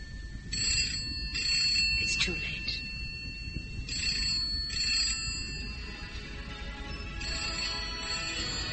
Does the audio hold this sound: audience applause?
no